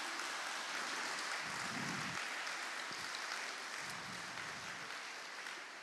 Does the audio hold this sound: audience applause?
yes